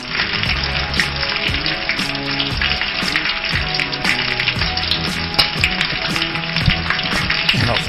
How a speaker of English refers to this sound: Ah, the crackling hot stove. Oh, that's what we're talking about.